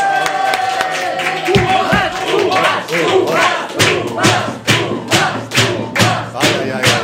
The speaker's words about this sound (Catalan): Rebem un fort aplaudiment a en Tomàs Molina!